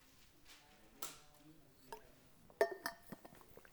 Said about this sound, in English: Let me just take a sip so I don't start coughing.